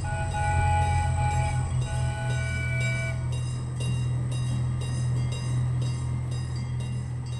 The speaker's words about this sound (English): The clanging of the grade crossing gates and the yard bells, that throaty sound of the engines. Add a whistle, and it's basically 3-year-old ….